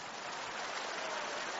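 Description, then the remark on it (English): A crowd claps steadily in praise to the Lord, the many hands blending into a dense, continuous patter that holds an even loudness throughout, with no voices rising above it. “You can't stop that clap right now.”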